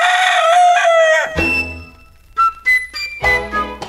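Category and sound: bird, rooster crowing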